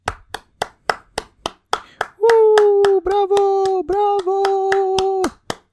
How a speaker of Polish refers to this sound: Poproszę o klaski.